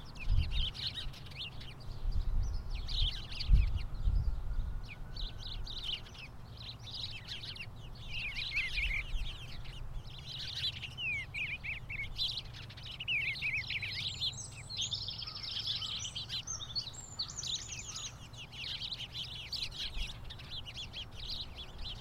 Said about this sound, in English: This is from the Cornell Ornithology Lab, all about birds. How to listen to a bird song.